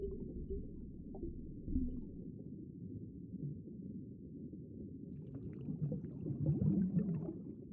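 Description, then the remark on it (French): Low, rumbling underwater tones of a humpback whale drone continuously, with a brighter burst of moaning, creaking calls rising toward the end, muffled and murky beneath the surface. “Aujourd'hui, on va parler de la baleine à bosse dans Bêtes de science.”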